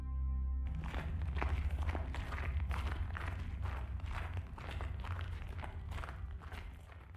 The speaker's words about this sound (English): His footfalls crunched the snow beneath them. The frozen ground, swaddled in its diamond-dusted blanket, cracked, scattering small echoes into the fresh-born sky.